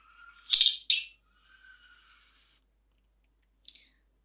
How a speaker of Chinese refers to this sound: 好啦，我要开红酒了。这红酒怎么开的？